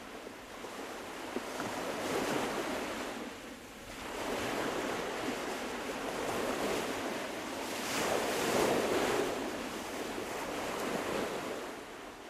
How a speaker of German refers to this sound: Solange er denken konnte, hatte er auf dieser kleinen Fischerinsel gewohnt. Schon als Kind war er mit dem Rauschen des großen Wassers eingeschlafen, und wenn er am Morgen aufwachte, rauschte es noch immer.